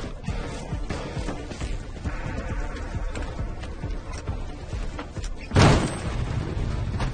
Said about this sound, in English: Wearing a blackout helmet, he jogs back up the ramp and pulls the garage door closed.